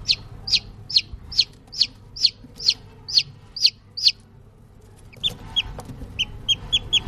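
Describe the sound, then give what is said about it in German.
Newly hatched chicks in their enclosure, which has a heat source, food and water, in a closed-off room, peep: about a dozen thin, high calls in a steady rhythm, a short pause, then a quicker, scattered burst of peeps over a low background hum. “Etwas munterer, vielleicht hören wir sogar, wie sie zu piepen beginnen.”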